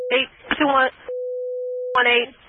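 A steady telephone dial tone hums without a break for a couple of seconds, while muffled voices talk over it at the start and again near the end.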